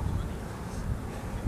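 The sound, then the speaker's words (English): Strong wind blows outdoors at the corner of Magic Way and Disneyland Drive, across the street from the Downtown Disney sign, a steady, loud low rumble buffeting the microphone with a rough hiss spread above it, lasting throughout without a break. “As I'm sure you can hear, it's really windy.”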